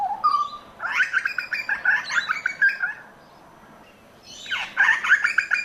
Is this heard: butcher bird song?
yes